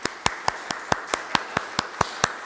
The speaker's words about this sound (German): Das Hedlich-Team oben, ne? Sonst wäre keine Übertragung möglich. Auch das mal mit einem Applaus, sei das mal bedacht.